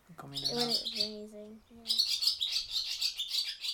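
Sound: barn swallows chirping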